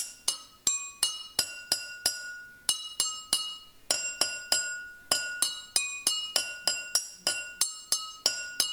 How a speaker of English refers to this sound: And one of them has the child filling glasses with different amounts of water. And if you tune the glasses with just the right amount of water in each, you can actually play a tune.